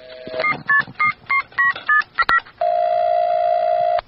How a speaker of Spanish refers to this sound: Teléfono, gracias a nuestro teléfono mágico, estamos haciéndole una llamada a Ernesto Che Guevara para hacerle unas preguntitas. Está llamando.